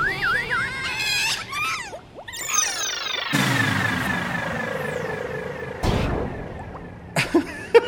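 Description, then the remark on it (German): A cartoonish sound effect of a vacuum cleaner exploding: warbling whistles and rising, falling sweeps build up, then a loud whooshing blast hits, followed by another sharp burst and a few scattered pops at the end. “Der Staubsauger ist explodiert!”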